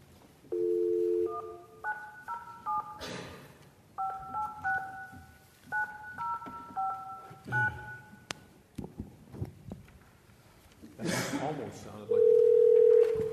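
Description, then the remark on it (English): A brief steady telephone dial tone is followed by a quick series of beeping keypad tones as a number is dialed to bring someone into a meeting by phone, with a few clattering handling noises, then another steady phone tone near the end. “Okay, we'll get John Walsh on the phone here.”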